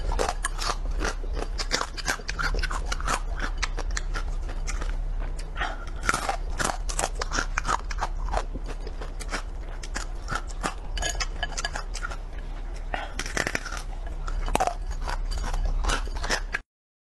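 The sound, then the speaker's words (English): Crisp crunching and chewing: dense, irregular snaps and crackles that continue steadily for several seconds over a low, constant hum, with no voices. “Yeah, I'm going to chew something, lady. Watch this.”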